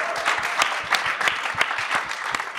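An audience at the Barbican applauds in a steady round of clapping, dense and sustained with sharp individual claps standing out throughout, moderately loud with no voices over it.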